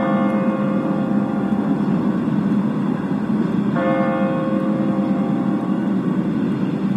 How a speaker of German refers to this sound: Mit dem Glockenschlag um 14 Uhr geht der Motorradgottesdienst zu Ende. Wir hören jetzt zunächst die kleine Glocke des Michels, die mit 4 Schlägen die volle Stunde ankündigt. Und nun die große Glocke, die Anzahl der Stunden verkündet.